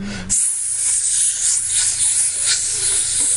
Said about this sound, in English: It took me a few seconds to figure out what was making that hissing sound. Then I saw a smoky green mist shooting up from the bottle, like my parents were shooting up in a motel. The thick mist rose up like a geyser, chilly and wet.